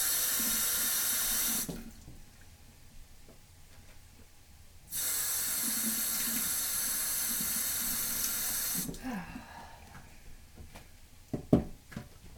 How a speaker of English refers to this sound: And just keep washing this lettuce.